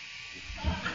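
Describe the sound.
A voice mimics a power drill with a short, buzzing, bleat-like whine lasting about a second, swelling slightly toward the end, with no words spoken.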